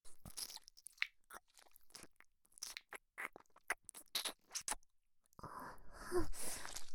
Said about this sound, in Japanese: このままお尻の中ゆっくり混ぜながら、お耳も舐めてあげるね。